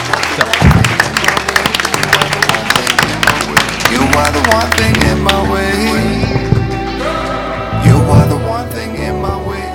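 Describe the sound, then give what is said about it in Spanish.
A burst of audience applause at a radio station for a visiting mayor, dense and steady clapping for several seconds, gradually thinning as a sustained musical tone rises underneath and carries on to the end. “Muchas gracias por haber venido y un aplauso.”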